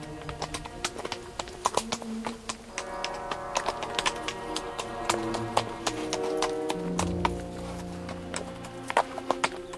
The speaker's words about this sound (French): Le cheval allait d'un pas de profond sommeil.